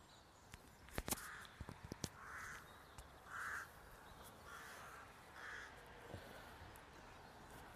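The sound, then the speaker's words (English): Several crows caw repeatedly in short harsh bursts from their nests in a tree, with a few sharp clicks and soft outdoor background noise around them. “I'm looking up to some crow's nests in this tree on my right here. You can see the crows popping their heads out the nest.”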